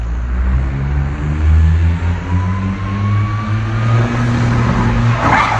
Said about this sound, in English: Here's a J-turn in a smart car. Let's go for the J-turn again.